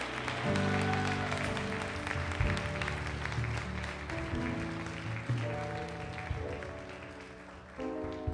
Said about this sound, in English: Come on, give Jesus a hand clap worthy of a king.